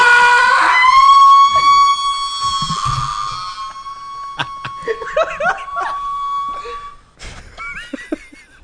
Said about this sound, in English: Do you remember when you waxed his butthole? The sound he made? That here. Was the best sound. It was his taint. Oh, his taint. Here you go. Here's his taint scream.